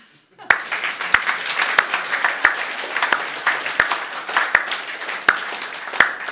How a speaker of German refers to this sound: Und ich bin so dankbar für jeden einzelnen Dienst und ich finde, dass wir uns jetzt mal wirklich einen Applaus geben, jeder.